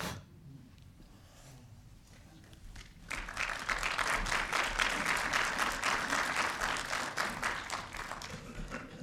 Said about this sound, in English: Applause is always appreciated at the Center for Spiritual Living.